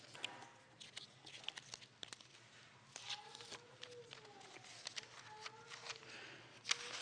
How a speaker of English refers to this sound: So, let's see here. I lost the page. So, I lost a page. I'm sorry. In my shuffle.